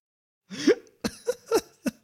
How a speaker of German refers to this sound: Oh mein Gott, sorry, ich musste mich halt räuspern.